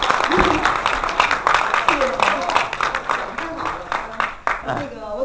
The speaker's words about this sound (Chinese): 先生的这个精彩讲座，嗯，太精彩了，让我以热烈的掌声感谢你先生。